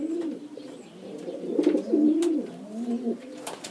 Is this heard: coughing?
no